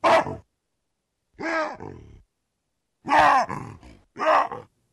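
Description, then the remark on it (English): Wild baboons call out in a series of loud, harsh vocalizations: a short bark, then rough grunts and strained, screaming cries in uneven bursts separated by brief silences. “Our guests on today's show want to know what baboons have to say to each other and what's going on in their minds as they scream, grunt, and wahoo. They've recorded vocalizations of wild baboons and analyzed what they communicate.”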